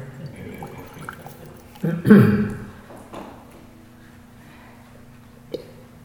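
A short slurping sip of liquid, a brief gulping burst about two seconds in, over a low steady hum, followed by quiet and a faint click near the end.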